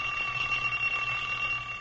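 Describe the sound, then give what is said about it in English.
An old alarm clock rings continuously with a shrill, steady metallic clatter, loud, lasting the whole moment with no voices. “Boy, when that old alarm clock goes off in the morning, I'll bet there's lots of folks who wish they could go right on sleeping for 20 years.”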